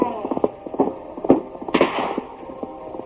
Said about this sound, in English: Then from ambush, a shot rang across the plain.